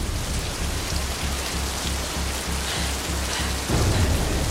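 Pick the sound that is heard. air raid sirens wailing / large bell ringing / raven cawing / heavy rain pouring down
heavy rain pouring down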